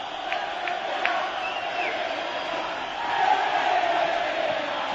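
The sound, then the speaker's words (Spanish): A large football crowd at the Villamarín chants "Pepe, vete ya" in a dense, steady roar in the 24th minute of the second half, with a few short, shrill whistles piercing through early on and the chanting swelling slightly louder toward the end. “Yo creo que también se oyen algunos pitos que a lo mejor es de gente en desacuerdo con el Pepe, vete ya.”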